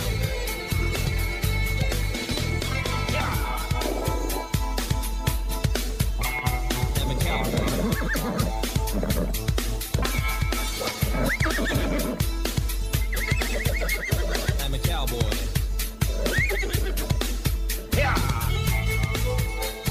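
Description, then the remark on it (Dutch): A horse whinnies amid a loud, driving song with a steady thumping beat, the neighing blended into the dense music rather than standing alone. “Het paard is erbij.”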